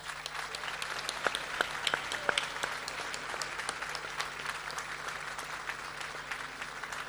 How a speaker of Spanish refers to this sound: en este momento que reciban un gran aplauso ellos y todos los trabajadores en la pista.